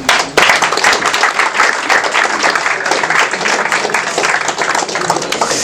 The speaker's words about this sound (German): Ich denke, das ist auch nochmal einen Applaus wert.